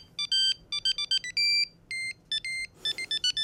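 A bright, electronic mobile phone ringtone plays a quick classical melody in short repeated bursts of synthetic tones, loud, with no voices over it.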